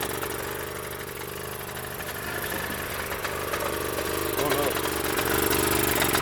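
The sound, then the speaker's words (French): A freshly restored motorcycle engine, just out of the garage on its first start, idles with a steady, rough mechanical rumble that stays even throughout, growing slightly louder toward the end. “Là, il vient de sortir du garage, donc c'est son premier tour de roue.”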